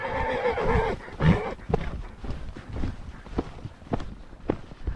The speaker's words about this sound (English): Horses trot softly across sandy terrain and scrubby oak brush here on Spain's central plateau.